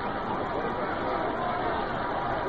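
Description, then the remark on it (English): A large baseball stadium crowd roars on each pitch in a steady, dense wash of noise. Many voices blend together into continuous, loud cheering with no pauses across the whole stretch. “Now you can get the suspense of the crowd. Here they are, roaring on each pitch.”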